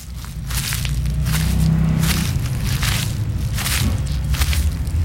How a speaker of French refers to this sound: Ah oui, ce sont des feuilles de hêtre. Je reconnais bien la texture, à la fois souple et craquante.